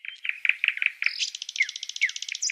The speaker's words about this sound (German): Und da bin ich eigentlich echt froh, wenn ich abends heimkommen kann, das Handy leise machen kann und eigentlich nur noch ein paar Vögel höre und sonst nichts mehr.